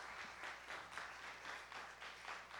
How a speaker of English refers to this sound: Keep clapping.